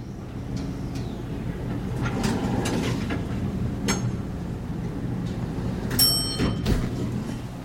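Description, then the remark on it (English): Lift doors slide open after the call button is pressed, over a steady low mechanical hum, with a few clunks and rattles and a bright, ringing tone near the end as the elevator runs. No voices. “He pressed the button and got in when the lift doors opened.”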